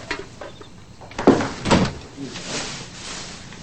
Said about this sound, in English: He returns, closing the door behind him.